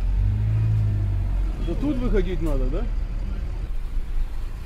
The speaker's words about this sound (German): Angekommen. Der Bus fährt rasch weiter.